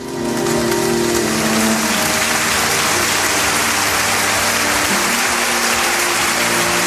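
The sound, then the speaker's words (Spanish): A large crowd applauds steadily and densely for several seconds at the end of the funeral in Huelva in memory of the 45 victims of the Adamuz railway accident, the clapping blurring into a continuous rain-like roar, with a faint low sustained tone running underneath. “Pues con esta sentida ovación ha terminado el funeral en memoria de los 45, de las 45 víctimas del accidente ferroviario de Adamuz.”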